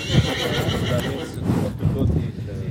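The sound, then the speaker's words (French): A horse whinnies in two loud, shaky bursts, each a quavering high neigh lasting about a second, with a faint murmur of people in the background. “Bah, les chevaux, ils sont un peu comme nous.”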